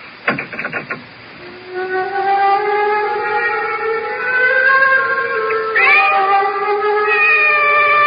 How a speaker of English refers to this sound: The cat's awake. Her yellow eyes are fixed on me with that calculating look.